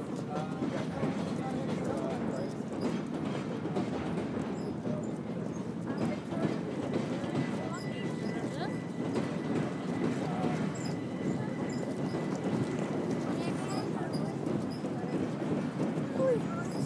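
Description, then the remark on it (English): A train coming in to Charing Cross rumbles steadily across a railway bridge, slowly decreasing its speed, its wheels thumping in a repeated rhythm over the joints, with a low continuous roar and indistinct voices in the background. “The trains coming in to Charing Cross, slowly decreasing their speed, and that thump thump resonating through the bridge and just ruining it.”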